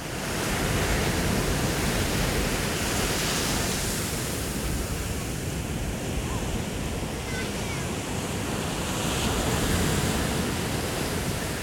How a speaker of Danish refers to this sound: Vi har en eller anden fornemmelse af, at vi godt ved, hvordan den her baggrundslyd fra havet udvikler sig. Den har en rytme i sig, det vil sige, lige pludselig så kommer der ikke en eller anden uventet lyd fra havet.